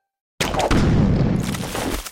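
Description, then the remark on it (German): An anti-personnel landmine explodes: a sudden, loud explosion erupts out of silence, a heavy low-end blast followed by a sustained rumbling roar that slowly decays. No voices are present. “So klingt es, wenn sie explodieren. Die Antipersonenminen, landläufig als Landminen bezeichnet.”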